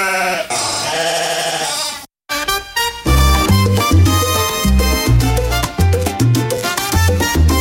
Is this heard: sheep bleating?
yes